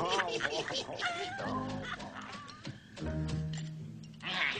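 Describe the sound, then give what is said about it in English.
Several human voices imitate animal calls at once as a signal, a braying donkey, a howling dog, a crowing rooster and a meowing cat, overlapping in a loud, wavering chorus. “When we're each ready, we'll give a call. Good. I'll bray. I'll howl. I'll crow. And I'll meow.”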